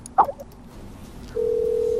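In a bunker, a man wearing a headset clicks the mouse on a call button on his computer: a short burst of a click and blip, then a steady, mid-pitched electronic tone starts and holds, like a computer call beginning to connect. No one speaks.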